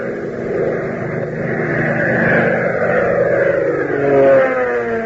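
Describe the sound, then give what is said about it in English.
A loud, steady roar of Hop Harrigan's airplane engine as the plane comes in to land drones on for several seconds, its pitch shifting and sliding as it holds, swelling slightly near the end with no voices. “Fellas and girls, as you listen to the roar of Hop Harrigan's plane as he brings it in, doesn't it make you think of Uncle Sam's fighters and bombers that are right this minute making the Nazis and Japs wish they had never started this war?”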